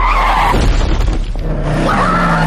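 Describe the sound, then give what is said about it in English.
A car brakes hard, its tires screeching and skidding in a loud, sustained squeal over engine rumble, lasting a couple of seconds with no voices. “I hit the brakes.”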